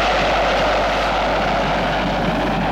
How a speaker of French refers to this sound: Son avion privé va atterrir à l'aéroport de Saint-Olas.